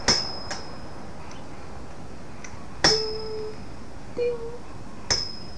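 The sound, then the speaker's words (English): A child bangs on a high chair, each sharp metallic strike leaving a high, bell-like ring that hangs briefly. About four irregular hits with pauses between them, and no talking. “Can you make your high chair ring like a bell?”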